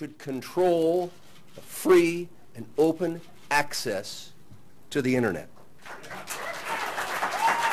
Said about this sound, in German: Als Tom Wheeler, der Chef der amerikanischen Kommunikationsbehörde FCC, im Februar das Abstimmungsergebnis bekannt gab, bekam er spontanen Applaus.